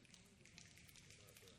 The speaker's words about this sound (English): one of the things they do in the poetry reading at the end, instead of clapping, they snap